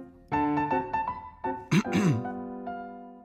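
repeated throat clearing

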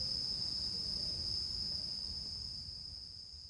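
cicadas chirping

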